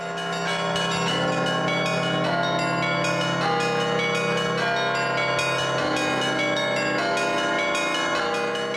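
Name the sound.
church bells ringing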